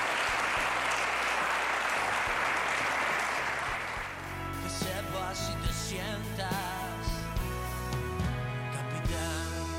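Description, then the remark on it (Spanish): Loud, dense applause from an audience fills the first few seconds, then gives way to music with sustained tones that continues to the end. “Por supuesto, que sí, claro que sí, ese primer fuerte aplauso para él,”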